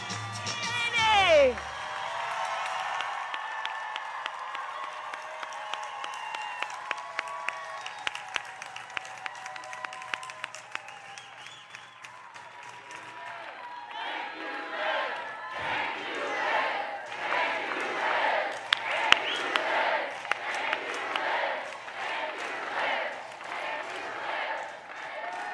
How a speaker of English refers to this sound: This is such an exciting time, going from people chanting, "Thank you, Liz," to now cheering Kamala Harris coming out. We'll have to see what happens, of course, but she is now at the podium.